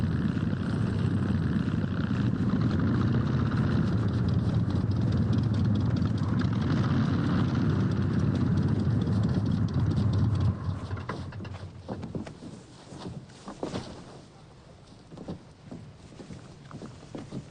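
A loud, steady aircraft engine drone with a deep rumble runs for about ten seconds, then drops away to quieter, uneven sputtering and rattling as the engine loses power.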